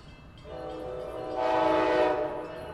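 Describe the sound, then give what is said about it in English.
A train sounds its steady, sustained horn at a station platform, and a rushing rumble swells louder midway as the train passes, then eases slightly. No one speaks. “Matt Roy stands on the train platform.”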